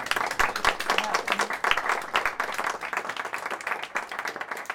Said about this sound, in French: Bah, donc, merci beaucoup. On applaudit.